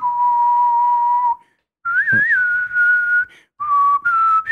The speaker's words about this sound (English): Yeah. The whistling comes in.